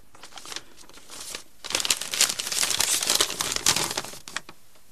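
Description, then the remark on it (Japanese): Paper crinkles and rustles as a letter, a company commander's last letter written before his death, is unfolded, starting with soft scattered crackles and swelling into a denser, louder burst of crackling before tapering off. No one speaks. “これは野村さんが死ぬ前にあなたに書いた手紙です。どうぞ読んでください。 そう言って渡されたのは中隊長の遺書でした。”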